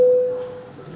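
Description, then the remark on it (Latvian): A single clear electronic bell tone sounds at moderate volume in a parliament session, called before a vote on a bill in its first reading, holding steady for a moment before fading away into a hush. No one speaks. “Lūdzu zvanu.”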